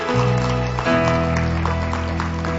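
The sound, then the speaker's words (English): A crowd claps steadily throughout as a clap offering to God, the patter of many hands blending over a sustained, tonal musical chord that holds underneath at a moderate level. “Come on, let's give God a big clap offering.”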